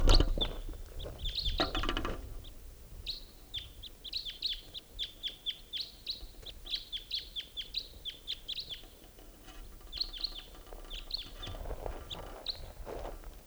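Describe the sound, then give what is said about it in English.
Calls of a pair of type 2 crossbills: a long run of short, sharp chip notes, high-pitched and fairly steady, repeated in quick bursts, with a few soft rustling or footstep-like thumps at the start and end. “Sounds like there's some crossbows coming out.”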